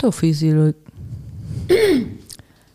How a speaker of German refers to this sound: Da räusper ich mich an der Stelle nochmal.